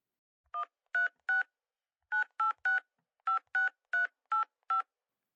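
A series of eleven short, clear telephone keypad tones in quick groups of three, four and four, each a brief dual-pitched beep, with no talking, as a phone number is dialed to make a call.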